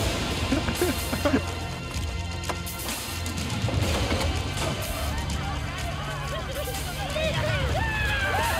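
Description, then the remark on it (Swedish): A dense crowd roaring and shouting together as they charge downhill into battle, with a steady rumble of running and scattered crashes and thuds beneath the clamor, loud and continuous throughout. “om du tar tillbaka till det, exakt samma klipp när de springer ner för kullen.”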